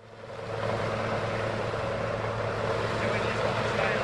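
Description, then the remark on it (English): A helicopter flying over flooded Rockhampton in central Queensland, its engine and rotors making a steady, loud droning hum that fades in over the first moment and then holds constant throughout. “Transport by helicopter has become the most efficient way of getting around central Queensland.”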